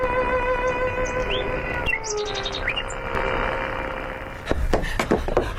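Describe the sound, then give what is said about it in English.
A wild bird sings over a radio broadcast relayed from Beatrice Harrison's garden in Surrey: quick, high chirps and short warbled phrases above a steady, humming sustained tone, followed by a few sharp clicks near the end. “It's a marvel, sir. Hearing the bird.”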